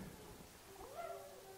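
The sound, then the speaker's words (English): Coyotes howling, with a few thin, wavering high-pitched calls rising and overlapping near the end, fairly faint against a steady background hiss. No one speaks. “When coyotes howl, they sound like a bigger pack than they really are.”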